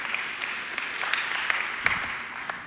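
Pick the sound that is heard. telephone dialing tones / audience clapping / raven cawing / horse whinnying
audience clapping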